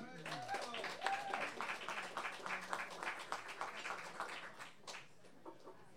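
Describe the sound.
An audience at an open mic claps for the next performer in a steady, dense burst of applause for several seconds, with a few voices mixed in at the start, thinning to scattered claps at the end.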